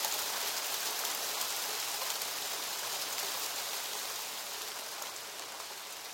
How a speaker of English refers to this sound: So we were just sat there getting cold, looking at the rain and listening to the relentless drum of rain on plastic